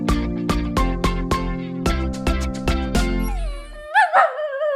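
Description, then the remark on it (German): A dog in a cage whimpers and lets out high, wavering howl-like cries near the end, following a run of sharp, rhythmic struck notes with a low sustained drone. The cries are fairly loud. “Ach Mensch, also ich meine, ach Hund, dir geht's nicht so gut, oder? Das ist ja herzzerreißend.”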